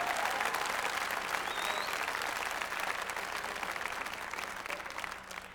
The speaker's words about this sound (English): Come on and clap your hands like you believe in the power of worship.